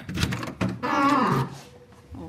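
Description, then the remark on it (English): A squeaky door in a university paleontology laboratory swings open with a drawn-out, wavering creak that groans for about half a second, preceded by a couple of short clunks and followed by a faint, quieter hum. “Oh, lovely squeaky door.”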